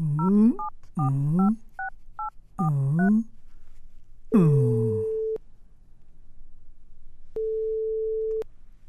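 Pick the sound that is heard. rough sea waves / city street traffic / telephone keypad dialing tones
telephone keypad dialing tones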